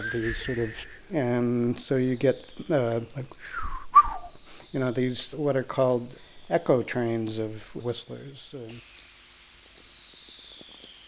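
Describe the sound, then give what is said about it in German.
Eerie descending whistler tones from natural radio, signals that run along Earth's magnetic field lines into space, come down in the opposite hemisphere and bounce back, several gliding downward in pitch one after another as an echo train, with a man talking over most of them before a final whistle sweeps down alone. “Diese Whistlers werden Echo Train genannt.”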